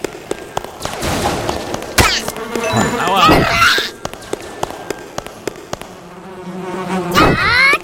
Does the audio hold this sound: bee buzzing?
yes